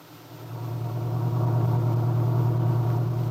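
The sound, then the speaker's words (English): A little pickup truck drives into Wakefield on a sunny, windy day, its engine a steady, low drone that swells a little at the start and then holds evenly, with no voices. “Aunt Mary Lane and her old friend and helper, Lefty Larkin, were driving into Wakefield in the little pickup truck.”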